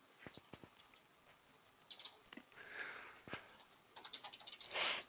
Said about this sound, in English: A little quick typing?